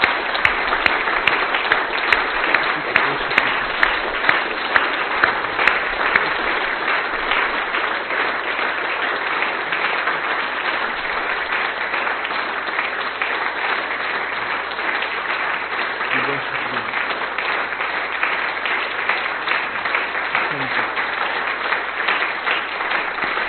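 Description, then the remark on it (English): A church audience claps in praise to God as a clap offering, steadily for over twenty seconds, a dense, loud wash of many hands with no pauses, holding an even level throughout. “So I want you to think for just a moment about the beauty of God, the way that you've experienced Him, and just start clapping in praise to God because of who He is and what He's done.”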